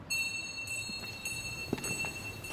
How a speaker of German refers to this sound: In der Kirche ist es dagegen fast still. Man hört die eigenen Schritte, hört sich auch wieder und das Glöckchen, das im Mittelschiff der Kirche erklingt.